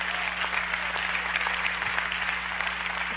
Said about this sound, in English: Clap if you get that revelation.